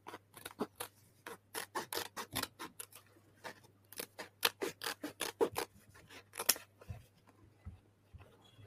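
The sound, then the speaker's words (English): Scissors snip rapidly and repeatedly, a steady run of crisp, sharp cuts in quick bursts with brief pauses, over a faint low electrical hum. “Yeah, so we'll just get your favorite Arsenal battle braid scissors. And you just start hacking away.”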